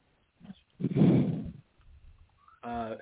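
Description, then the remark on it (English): A man breathes heavily over a phone line: a brief huff, then a long, loud, rough exhale, softer rustling breaths, and finally a short voiced sound. “He's either not listening or that's him breathing heavy over the phone.”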